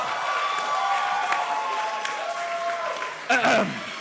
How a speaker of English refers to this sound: I've never seen anyone get a genuine cheer from a rap that involves I enjoy X in a major way. I would say that's the most applause to number of rhymes in a rap ratio that I've ever seen.